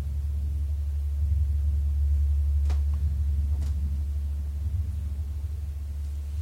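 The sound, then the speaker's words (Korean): A deep, steady rumble of thunder rolls on for several seconds, low and heavy, with a couple of faint crackles partway through and no voices. “그 천둥소리 받기도 하고 굉장히 방해가 되네.”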